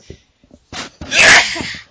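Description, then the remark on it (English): A quick sharp inhale, then one loud, explosive sneeze, trailing off into a breathy hiss. Nobody speaks. “Gesundheit.”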